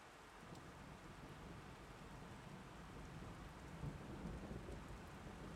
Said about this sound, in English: Baby. You okay? Wait, are you scared of thunder?